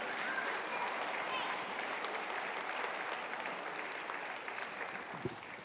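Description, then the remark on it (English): A crowd claps steadily after a Christingle demonstration, a dense, even patter of many hands at moderate loudness that tapers slightly toward the end, with one sharper clap near the close. “Round of applause, perhaps?”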